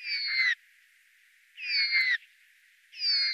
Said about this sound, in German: Bei einem Tannenhäher, er gehört zur Familie der Raben, hören sich diese zweistimmigen Laute so an.